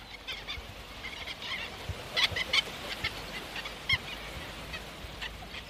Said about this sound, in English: These are godwits flying overhead. You can hear them calling.